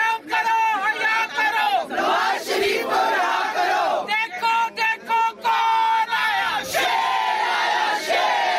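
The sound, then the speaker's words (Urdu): A crowd of women chants protest slogans loudly and rhythmically in unison, voices layered and continuous, with brief pauses between repeated shouted phrases, outside an accountability court, demanding the release of former prime minister Nawaz Sharif. “اس موقع پر عدالت کے باہر نواز شریف کی رہائی کے لیے خواتین نے احتجاجی مظاہرہ کیا اور بھرپور نعرے بازی کی.”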